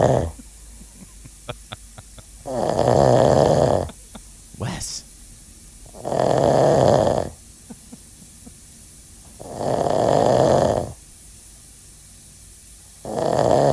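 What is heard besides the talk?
person snoring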